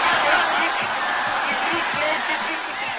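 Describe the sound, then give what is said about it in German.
A dense crowd of spectators at a betting fight shouts loudly and continuously in rhythm, calling out the colors they bet on to win, many voices blending into a steady roar that stays full throughout. “Im Rhythmus brüllen die Zuschauer die Farben, auf deren Sieg man bettet.”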